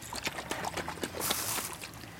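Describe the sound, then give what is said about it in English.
Syrup poured over a hot cake soaks in as a soft, steady crackle and fizz with scattered small pops, swelling briefly in the middle. No one speaks. “And then pour it over. You want to hear it kind of really drinking it in.”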